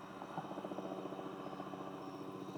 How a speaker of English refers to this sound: I'm not surrendering to a helicopter.